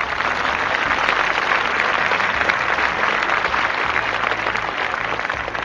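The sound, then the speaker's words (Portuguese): Steady, dense applause from a crowd, a continuous crackle of many hands clapping at an even, fairly loud level for several seconds with no voices. “Sério, palmas pro Kitagawa.”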